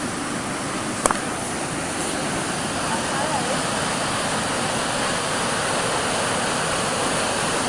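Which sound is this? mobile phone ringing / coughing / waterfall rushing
waterfall rushing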